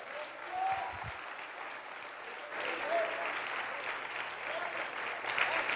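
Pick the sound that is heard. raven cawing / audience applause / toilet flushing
audience applause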